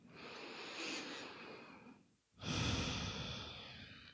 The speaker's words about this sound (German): Nimm noch ein paar bewusste Atemzüge so und schau, dass wirklich der Brustkorb offen ist und dass du ganz tief und gleichmäßig atmen kannst.